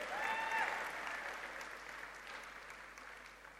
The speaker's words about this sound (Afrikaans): Ek wil vanoggend, ja, gee hulle nog 'n hande klap.